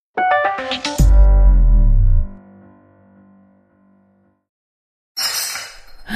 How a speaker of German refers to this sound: ich glaube, ich habe deine Lieblingsvase zerbrochen.